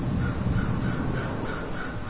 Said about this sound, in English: Hearing the sounds. Hearing the sounds of the birds outside.